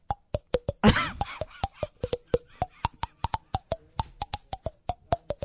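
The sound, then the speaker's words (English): A tune played by popping hollowed cheeks: a steady run of quick, hollow plops, about four per second, each slightly changing pitch to trace a melody, with one brief breathy burst early on. “And then you played it on your hollowed out cheeks.”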